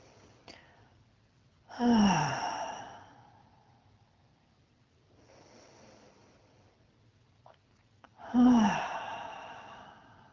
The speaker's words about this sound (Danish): Tag nu 3 dybe vejrtrækninger.